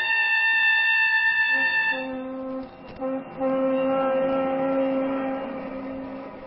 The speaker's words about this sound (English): Now you're crossing the country again. This time in a deluxe train. A very different ride than the one you took that night 20 years ago.